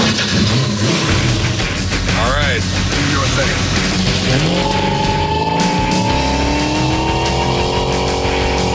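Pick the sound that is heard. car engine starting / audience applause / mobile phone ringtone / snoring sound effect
car engine starting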